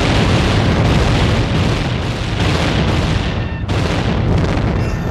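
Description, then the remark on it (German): A cannon broadside thunders out, heavy booms rolling one after another into a dense, continuous roar, with a brief dip near the end before another blast. “Eine Breitseite für den Donken, Leute! Feuer!”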